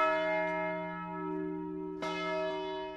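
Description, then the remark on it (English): A massive church bell at the First Congregational Church, swung by a bell ringer using his whole body weight on Palm Sunday morning, tolls with a deep, ringing strike, its rich overtones sustaining and slowly fading before another heavy strike rings out about two seconds later. “brilliant Palm Sunday morning, the bell ringer at the First Congregational Church steps forward and uses the weight of his entire body to swing the massive bell 13 times for the people killed, and then once more for the shooter who took his own life.”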